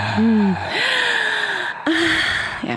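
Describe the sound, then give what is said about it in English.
Exaggerated heavy breathing: a few loud, theatrical gasping breaths in quick succession, some with a breathy voiced tone, with no words spoken. “Oh, we can do some real heavy breathing here, baby.”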